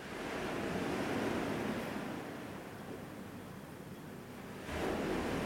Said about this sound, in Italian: Però ecco, se vi chiedete che cos'è questo rumore di sottofondo, sì, sono onde del mare effettivamente.